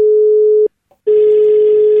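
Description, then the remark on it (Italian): A telephone line ringing tone for a prank call on Radio Toscana: a steady electronic hum that breaks for a short pause, then sounds again over a faint hiss of line static, loud. “Amiche e amici all'ascolto di Radio Toscana, sì, e ci sono arrivati gli scherzi telefonici più brutti di mondo, con i personaggi grulli alla ribalta, sulla radio solo Toscana, solo hit, Radio Toscana, via il telefono.”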